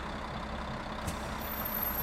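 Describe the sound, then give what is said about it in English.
A large bus engine idles steadily at a stop as a passenger gets off, a low rumbling drone with a constant hum, punctuated by a brief hiss of air midway through. No one speaks. “The next day, as I got off my bus,”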